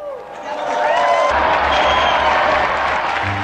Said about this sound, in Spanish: Unidos pues a quienes entregan su vida por defender la fe cristiana, brindemos nuestro vivo aplauso al Francisco Pacheco y compañeros mártires.